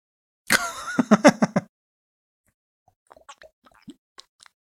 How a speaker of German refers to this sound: Die beiden nehmen gerade Zaubertrank zu sich. Oh, die sind aber mild.